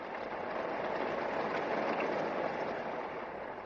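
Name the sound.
steady rain falling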